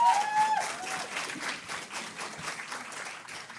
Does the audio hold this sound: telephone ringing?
no